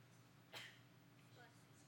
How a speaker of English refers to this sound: Bless you. Who sneezed?